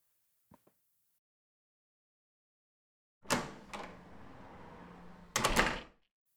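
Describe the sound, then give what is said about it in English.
Two faint clicks, then a pause before a front door opens with a loud clatter as a man comes in, a sustained rumbling sweep as it swings, and a final heavy thump as it closes. No voices. “Well, there he is, just coming through my front door like he owns the place.”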